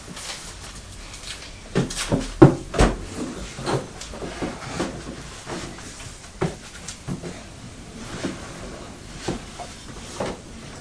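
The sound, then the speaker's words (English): A chair is shifted out of the way, with a series of scraping knocks and thumps spread unevenly across several seconds, a cluster of louder bumps early on, then quieter clunks. “You want the chair moving out of the way?”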